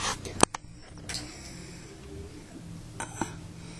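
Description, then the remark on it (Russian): A car that has just arrived idles with a steady low engine rumble, broken by a few sharp mechanical clicks and knocks, with faint voices in the background. “На машине приехал.”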